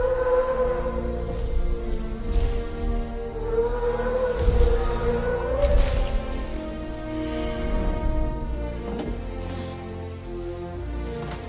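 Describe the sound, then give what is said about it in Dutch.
Deep, drawn-out Brachiosaurus calls from the Jurassic Park film soundtrack, resembling whale song: long moaning tones that slowly rise and fall in pitch over a steady low rumble, with no talking. “Het zijn een soort walvisachtige geluiden.”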